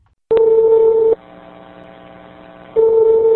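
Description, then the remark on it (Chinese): Telephone line tones from an investigative phone call to Zhongshan Hospital in Shanghai: a loud, steady electronic beep lasting nearly a second, a lower humming pause, then the beep returning. No one speaks. “我们再来听另外一段对上海中山医院的调查电话录音。”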